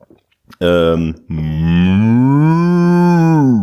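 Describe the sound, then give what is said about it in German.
A person imitates a cat with a loud, low, drawn-out meow: a short first cry, a brief break, then a longer, wavering call that rises and falls, with no talking. “Das war eine Katze, eine sehr gute Katze.”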